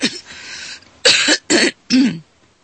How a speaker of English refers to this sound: Excuse me, I had to cough there.